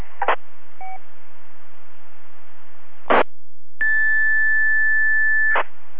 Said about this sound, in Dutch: Oh, dat was een pieptoon. Kan u dit inwisselen met de stem?